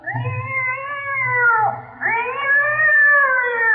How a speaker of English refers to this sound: I told you not to step on that cat's tail. I don't see any cat. There is no cat, just the tail.